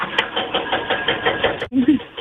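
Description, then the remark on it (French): Rapid, steady mechanical pounding of a jackhammer over the rumbling engine of a tractor at a construction site about 2 meters behind a house, in the morning, loud and continuous, with a brief break near the end before the noise resumes. “Avec quoi je suis réveillée le matin, vous devez entendre, hein. Le marteau-piqueur, là, le tracteur.”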